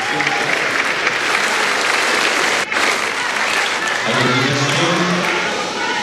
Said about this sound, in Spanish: Ahora sí, viva Chile, grita una persona en la grada que es respondido por todo el Salón de Honor con un aplauso.